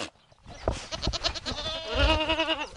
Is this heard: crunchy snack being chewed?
no